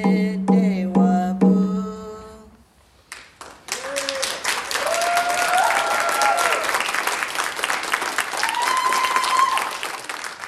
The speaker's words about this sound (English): When the play ends, there are cheers and a standing ovation.